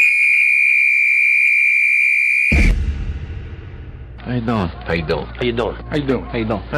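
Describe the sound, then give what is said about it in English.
A single long, shrill whistle blast, blown to start the clock, rings out loud and steady for a couple of seconds, cuts off into a rumble of noise, and then a voice starts talking. “The clock starts on my whistle.”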